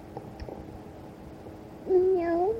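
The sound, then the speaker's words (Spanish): A voice imitates a kitten's meow in answer to a question in Spanish about how kittens sound, with one drawn-out, fairly loud mew that rises and then holds. It comes near the end after a stretch of quiet background noise. “Oye, ¿y cómo hacen los gatitos?”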